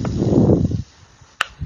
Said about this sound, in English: Kind of hard to hear it. Yeah, that's a really quiet yo-yo. Oh, there's totally some starburst in there. Yeah. Is it lubed? Because I guess that's why it's quiet. It's brand new out of the box.